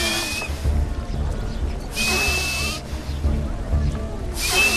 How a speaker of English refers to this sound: What is wrong with him? Why does he sound like that? It's a booger whistle.